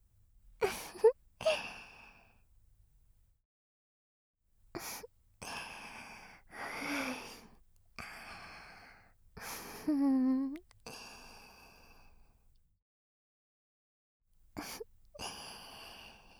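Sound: heavy excited breathing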